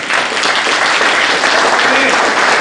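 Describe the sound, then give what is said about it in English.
An audience bursts into loud, sustained applause, a dense wash of many hands clapping steadily throughout with no single claps standing out. “Let's give him a clap off.”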